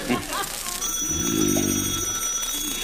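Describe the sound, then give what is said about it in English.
An old-style telephone bell rings continuously at a steady, bright pitch, fairly loud, while a muffled voice murmurs underneath. “answer the phone. The telephone, answer it.”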